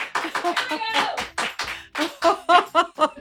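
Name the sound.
hands clapping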